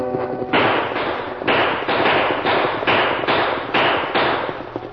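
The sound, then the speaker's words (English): A rapid volley of loud gunshots from outlaws riding out of the brush, shooting over the heads of people on a wagon, about eight sharp cracking blasts fired in quick, fairly regular succession, with no voices. “Tom Bancroft and Joe Boonton were caught unprepared when the outlaws rode out of the brush, shooting over their heads and dragging the wagon horses to a stop.”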